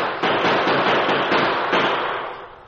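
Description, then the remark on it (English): A dense, continuous volley of gunshots, fired from a private railroad car at the Lone Ranger racing away from the siding, crackles without pause, with a few sharper bursts standing out along the way before the barrage slowly fades at the end. No voices are heard. “Can't even shoot straight.”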